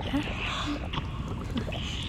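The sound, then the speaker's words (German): A few irregular, wet, slimy smacking squelches rise softly over a steady, murky watery rumble, with no voices, heard from inside a human body, in the mouth among the teeth. “So ein komisches, schleimiges Schmatzgeräusch.”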